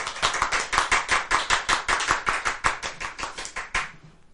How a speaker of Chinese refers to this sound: 对，赞不赞？ 赞， 拍手。